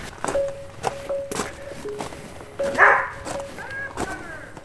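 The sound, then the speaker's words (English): A husky dog barks a few times at a visitor outside a house in Thompson, Manitoba, with sharp yips standing out, alongside thumping footsteps and a faint steady whine in the background. “He's barking at me, sorry.”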